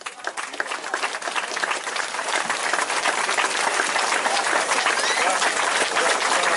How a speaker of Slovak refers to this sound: Poprosím vás, privítajme veľkým potleskom pána Mariana Andela.